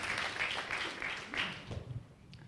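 A crowd claps together in a steady, dense patter of applause at moderate volume, tapering off toward the end, with faint voices mixed in.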